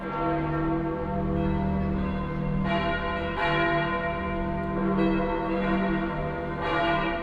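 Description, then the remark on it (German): The large bells of St. Peter's in Rome ring together in a dense, sustained peal, deep tones overlapping with fresh strikes every second or so, loud and reverberant with no voices. “Über alle Länder der Christenheit klingt der Ruf der Petersglocken in Rom.”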